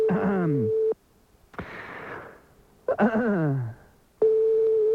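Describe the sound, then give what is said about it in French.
A steady phone ringback tone sounds in two bursts separated by a pause, as an unanswered call to a McDonald's phone number rings out over the line, with some falling, voice-like sweeps and a hiss mixed in. “Allez, on y va, on compose un autre numéro de téléphone de McDonald's.”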